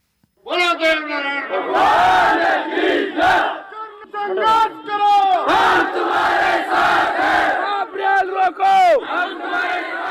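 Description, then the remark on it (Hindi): A large crowd of Gurjar community protesters in Rajasthan, India, chants loud slogans hailing their deity Dev Narayan in unison as they arrive and camp on the Delhi–Mumbai railway line, voices rising and falling in repeated rhythmic shouts that fill the whole clip without pause. “वे अपने आराध्य देव नारायण के जयकारे लगाते हुए आए और रेल मार्ग पर पड़ाव डाल दिया।”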